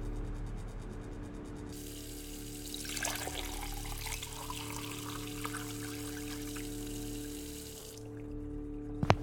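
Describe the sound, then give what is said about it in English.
Water pours steadily into a glass for about six seconds with a continuous splashing rush, fairly loud, over a low background hum; no one speaks. “I'm going to need you to bring me, please, a glass of water.”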